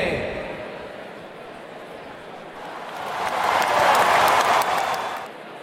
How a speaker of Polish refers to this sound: Co takie krótkie te oklaski?